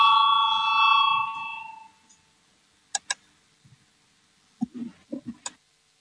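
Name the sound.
parliamentary voting bell ringing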